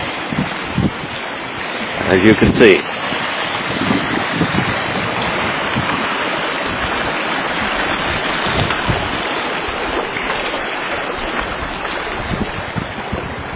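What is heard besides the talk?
flowing creek water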